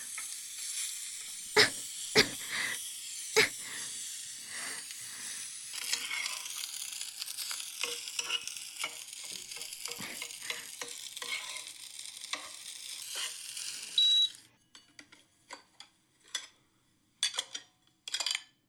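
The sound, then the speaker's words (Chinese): Food sizzles and crackles steadily in a hot pan as dishes are cooked, with a few sharp scraping stirs and clinks near the start; the sizzle cuts off abruptly, leaving scattered quieter clatters. “后面的菜也由我来做？你不是要学做饭的吗？行吧。那我做好了叫你啊。”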